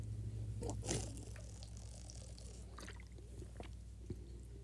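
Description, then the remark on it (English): Water is briefly poured, with a soft splashing burst near the start followed by quiet sipping of drinking water and small clinks, faint, with no one talking. “I'm going to put this back on an X because I want to drink actual water.”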